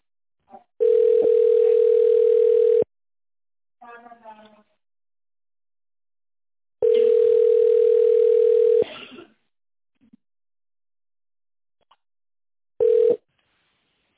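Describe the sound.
Long, steady ringback tones of about two seconds each sound over a phone line on a call to the company RS Kibernetika, separated by pauses, with brief muffled voice fragments between them and a third tone cut short at the end.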